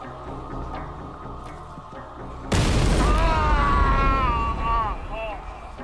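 sound effect, bomb explosion sound effect

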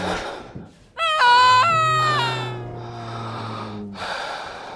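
human body sound, labored breathing

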